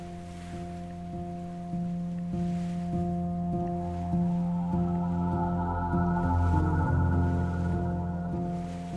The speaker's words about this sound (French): Le bateau arrive à grande vitesse.